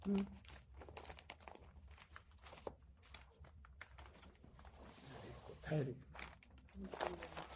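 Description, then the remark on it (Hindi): Paper crumpling and crinkling, in irregular bursts of rustles that continue throughout, with a voice speaking briefly near the end. “कागज छिपा हाँ।”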